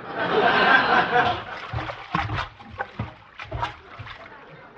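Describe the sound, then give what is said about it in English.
Water sloshes and gurgles inside a full belly after drinking 22 glasses of water while rocking in a rocking chair: a burst of swishing followed by rhythmic surges, fairly loud, with soft chuckling vocal sounds mixed in. “And to keep my mind off of smoking and eating, I just drank 22 glasses of water.”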